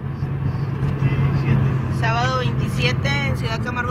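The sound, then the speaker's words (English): Steady low engine drone and road rumble from inside a car driving along a highway on a sunny day through a dry, dusty landscape, recorded on a phone, continuous throughout, with a voice speaking over it partway through. “It opens looking out the windshield of a car on a sunny day.”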